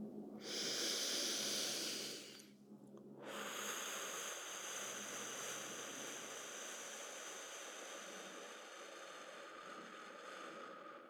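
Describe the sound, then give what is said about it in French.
A deep breath drawn in to fill the lungs, a brief pause, then a long, steady, airy exhalation lasting several seconds, part of a relaxation breathing exercise, fairly loud with no talking. “Remplissez bien vos poumons et faites une longue expiration. Et vous prenez conscience de votre respiration au niveau du ventre. Je vous accompagne.”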